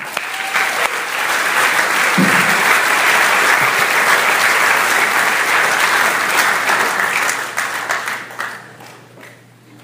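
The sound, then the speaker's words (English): Steady, dense audience applause welcoming a speaker swells quickly and holds loud for several seconds, a broad crackle of many hands clapping, then gradually thins and fades away toward the end. “round of applause and a welcome”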